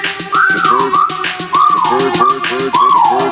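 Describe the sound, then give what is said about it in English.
A bright, loud whistle sliding up and down in three arching swoops, each phrase repeating over a steady rhythmic backing beat. No one speaks. “I just tried to simplify it to Whistling Cow Machine. Check it out.”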